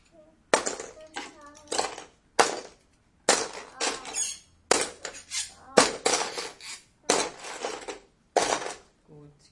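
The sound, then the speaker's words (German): Hard toy building blocks clatter and rattle into a drawer in a quick series of irregular bursts as they are sorted back into it, with short pauses between handfuls and a faint voice briefly underneath. “Wollen wir die Bausteine wieder einsortieren und die Schublade wieder da reinschieben?”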